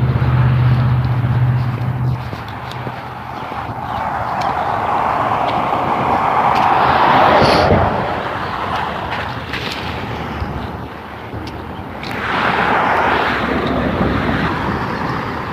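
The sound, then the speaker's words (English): Steady outdoor morning traffic noise on a damp, foggy day after rain, with a low rumble, as vehicles swell past around the middle and again near the end, a hissing wash like tires on a wet road. “It's a traffic this morning, jeez.”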